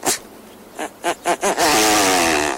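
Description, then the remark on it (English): A male great bustard's display call, loud, made by inflating special neck sacs: a sharp sneeze-like burst, a few quick rhythmic puffs, then a long raspy, buzzing blurt like a raspberry. No voices. “In a display that rivals our own sage grouse, he sounds off by inflating special neck sacs, producing what sounds like a massive sneeze, followed by a Bronx cheer.”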